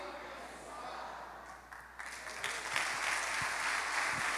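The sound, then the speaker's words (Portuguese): An audience bursts into applause for Jesus during a church service, a dense wash of many hands clapping that grows louder and fuller after the first couple of seconds and keeps going steadily. “Pode aplaudir Jesus.”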